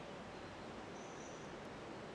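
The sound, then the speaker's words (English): A steady, even rush of flowing river water in Rishikesh in the evening, soft and continuous like rapids, with no voices or other distinct sounds over it. “It's evening here in Rishikesh, and again, we can hear the sounds of the river, maybe a little bit of wind or some of the horse bells.”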